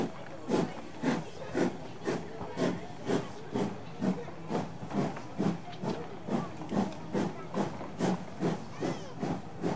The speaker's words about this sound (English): But the train gave a sudden lurch and started moving. We were on our way home.